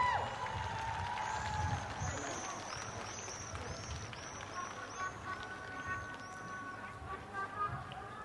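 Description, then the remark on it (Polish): A crowd applauds and cheers steadily for several seconds, a dense wash of clapping with shouts and voices mixed in, and some high whistles or calls rising above the noise, as group 19 arrives together with Bishop Grzegorz Balcerek. “Wraz z grupą 19 wchodzi ksiądz biskup Grzegorz Balcerek, dla którego też ogromne oklaski.”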